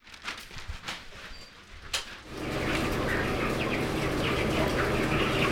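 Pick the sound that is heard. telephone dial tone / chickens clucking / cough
chickens clucking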